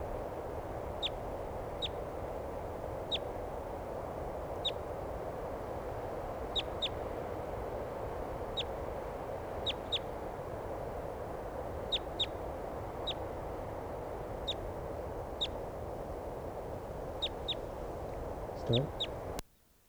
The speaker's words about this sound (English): Okay, here's another wild bird. Maybe the same one, I'm not sure.